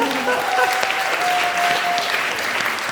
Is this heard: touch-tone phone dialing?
no